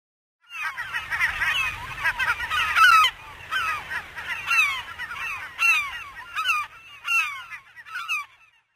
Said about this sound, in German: Und die Pinguineltern bringen ihren Kindern ihr Futter. Dann rufen sie nach ihnen, denn die Kleinen sehen sich alle zum Verwechseln ähnlich.